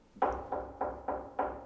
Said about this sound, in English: Soon afterwards, there was a gentle knock at the door.